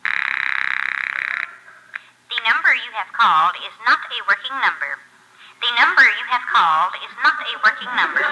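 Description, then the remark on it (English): As a phone call is placed, a steady telephone tone hums for about a second and a half, then gives way to high-pitched, squeaky, sped-up chattering voices that run in quick warbling bursts. “All right, sports fans, now let's try a phone call.”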